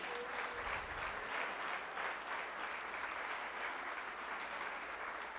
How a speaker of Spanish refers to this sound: ¿Le puedes dar un aplauso al Señor en esta noche?